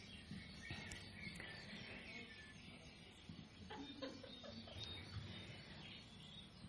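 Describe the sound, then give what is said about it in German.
Birds chirping and twittering outdoors, a steady chorus of overlapping calls with some clucking fowl mixed in, over a constant background hum. “Hört ihr die Vogelklänge, das Vogelgezwitscher?”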